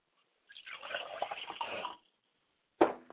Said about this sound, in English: I say Ashe. I pour libation.